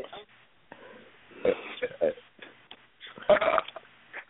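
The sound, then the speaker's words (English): A loud, croaky burp rumbles out in a few uneven bursts, the strongest near the end, amid bits of muffled voice. “Ew, who's burping like that?”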